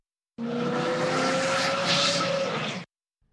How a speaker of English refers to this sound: Zoom. But you can also say, the car zoomed by me. This means the car drove by you at a very high speed.